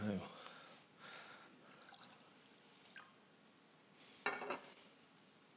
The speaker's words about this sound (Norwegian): Ja, vi må snu glasset før vi heller oppi.